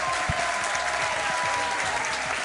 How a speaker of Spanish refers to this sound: Un aplauso para todos los que habéis venido esta noche a vernos, que se sienta que en Cataluña, en Barcelona también se nos escucha.